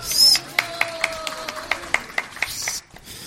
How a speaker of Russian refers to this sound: Жидкие аплодисменты.